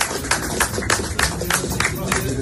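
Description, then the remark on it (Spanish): Soft, scattered applause at a NATO summit after the agreement between the Swedish and Turkish leaders: a steady patter of light claps at an uneven rhythm, with a low murmur of voices underneath and no single clap standing out loudly. “Así sonaban los aplausos, suavecitos, tras el acuerdo llegado entre el líder sueco y el turco.”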